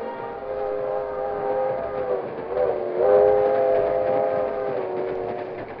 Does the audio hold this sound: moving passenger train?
yes